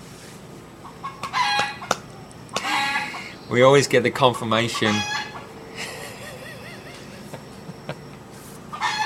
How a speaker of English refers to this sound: I'm just getting a bit of support here from our friend the rooster. I'm sure he's going to squawk off very shortly.